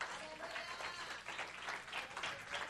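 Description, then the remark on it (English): An audience applauds the Lord in a steady, dense patter of many hands that swells slightly and keeps going throughout, with faint voices mixed into the clapping. “Give an applause to the Lord.”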